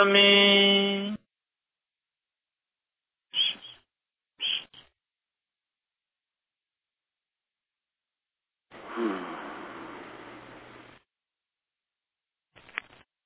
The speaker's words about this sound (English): And the problem is the birds are trying to sing along with me.